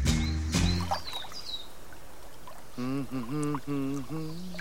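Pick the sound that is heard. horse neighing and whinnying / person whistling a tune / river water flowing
river water flowing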